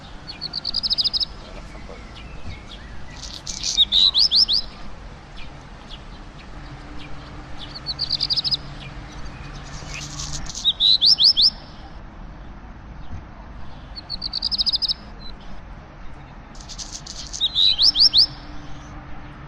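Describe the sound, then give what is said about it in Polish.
A black redstart sings short, high phrases repeated about every six seconds, each ending in a brief scratchy flourish, over a steady low background hum. “Posłuchajmy, jak śpiewa kopciuszek.”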